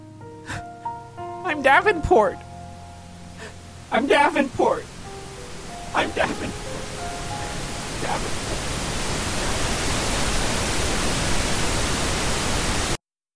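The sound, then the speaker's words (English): Harsh radio static builds steadily from a faint hiss into a loud, dense crackling wash that swamps everything, then cuts off abruptly. Brief voices and vocal sounds come before it, in the opening seconds. “Everything is just static.”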